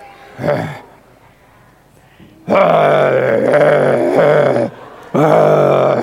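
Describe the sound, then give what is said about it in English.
Several voices imitate lions with loud, sustained growling roars at Daniel during a retelling of the story of Daniel in the lions' den: a short burst, then a pause, then two long roars in quick succession followed by another after a brief gap. “Come on, start roaring lions at Daniel. Start roaring at like that.”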